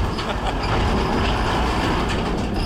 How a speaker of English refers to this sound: There's a tractor coming through the ford now.